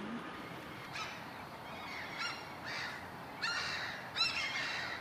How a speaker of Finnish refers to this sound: Tässä on lokkiparvi lennossa, naurulokkeja ja kaalokkeja. Naurulokit poistuvat meiltä päältä osin talveksi, mutta kaalokkeja kyllä jää sitten talviakin viettämään, etenkin silloin kun on leutoja talvia.